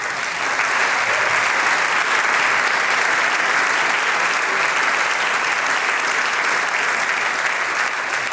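Steady, sustained applause from an audience for a music group that has just played on stage, a dense wash of clapping hands at an even loudness for the whole stretch, with no voices standing out.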